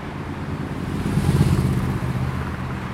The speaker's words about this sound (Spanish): Alameda con Portugal, son las 5 de la tarde. El tráfico no baja de 79, 80 decibeles.